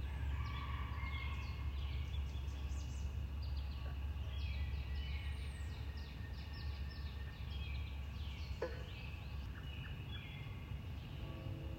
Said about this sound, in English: I'm hoping you can hear some of the sounds. The communications, the birds and the frogs.